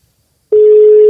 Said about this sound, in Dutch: Zal het over de telefoon horen overgaan? Ik hoor iets.